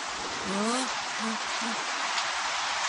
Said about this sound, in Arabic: ما شاء الله، المطر يتساقط بغزارة.